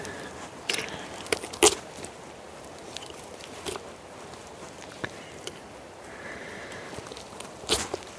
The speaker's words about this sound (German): Jetzt muss ich nur noch einmal am Hals runterschneiden. Und quasi den Schlund mit erwischen.